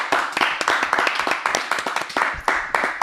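A small group claps steadily for a few seconds, a dense patter of overlapping hand claps with no voices over it.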